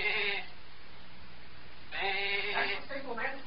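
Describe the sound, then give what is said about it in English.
A person imitates a sheep as a signal, giving a short nasal bleat, a pause, then a longer wavering "baa" with a quavering end, at moderate volume. “Now, we'll slide out and give the sheep signal.”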